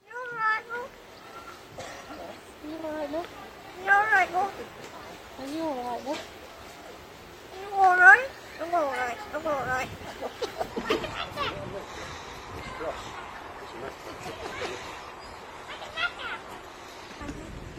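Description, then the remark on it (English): A crow trained to mimic human speech talks in a British-sounding accent, saying "I think I'm all right" and "are you all right, love?": squeaky, warbling word-like phrases in bursts, louder at first, then trailing into softer, raspy, breathy noises. “It may be a little hard for some of our listeners to hear, but the bird says, I think I'm all right, but in a British accent.”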